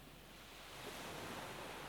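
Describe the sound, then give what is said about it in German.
Gentle waves wash steadily onto a shore, a soft continuous rush of surf that swells slightly partway through, heard alone without any voices. “Warm, ganz sanft umspülen die leichten Wellen deine Füße.”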